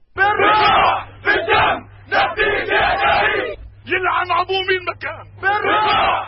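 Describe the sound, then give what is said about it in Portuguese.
A crowd of violent protesters in Amman, Jordan, shouting loudly in rhythmic bursts, many voices yelling together in repeated chant-like surges with short pauses between, the roar staying strong throughout. The protests broke out after an Israeli embassy guard shot dead two Jordanians. “Irromperam em Amã violentos protestos quando um guarda da embaixada de Israel matou a tiro dois jordanianos que o tinham atacado com uma chave de fendas.”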